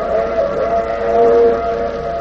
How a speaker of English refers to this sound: the wailing whistle of the fast express.